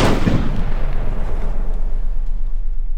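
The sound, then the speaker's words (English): A single heavy cannon blast booms out at the start, a deep, loud explosion whose low rumble rolls and slowly fades over the next few seconds. No voices are present. “Most of the explosions that humans have heard up to there were from low explosives gunpowder.”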